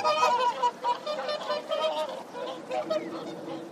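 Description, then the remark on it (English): Swans honk repeatedly in a loud, overlapping chorus of nasal, horn-like calls that rise and fall in quick bursts. “What? What is it? I don't understand your honks.”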